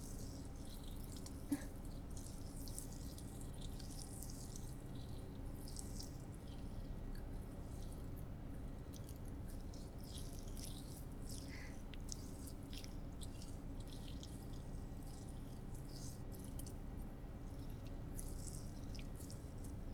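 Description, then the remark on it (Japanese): Soft wet squishing and sticky smearing as honey is rubbed over the whole of the feet for a foot reflexology massage, a continuous slick rhythm of gentle rubbing strokes with no talking. “これで足全体に塗り込めました。”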